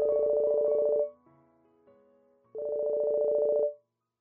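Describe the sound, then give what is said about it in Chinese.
A mobile phone rings with an incoming call from the owner's husband: two loud, steady electronic trills separated by a brief pause, clear with no voices. “我的手机响了。”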